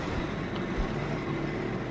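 A metro train runs steadily, a constant loud rumble with broad rattling noise and a low hum, uninterrupted, with no voices.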